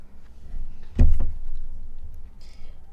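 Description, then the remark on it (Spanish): A door is unlocked with a key and pulled open: a solid mechanical clunk with a quick second click, then a faint rustle and a brief soft hiss as it swings. Fairly loud, no voices. “pues abre la puerta, la llave la tiene Chichi colgada”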